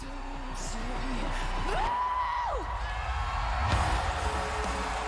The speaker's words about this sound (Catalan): La posada en escena ha de ser molt xula, perquè la gent aplaudeix molt.